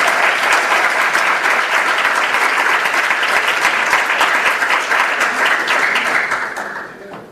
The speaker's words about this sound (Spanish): Por favor, démosle un aplauso muy fuerte a nuestro siguiente invitado,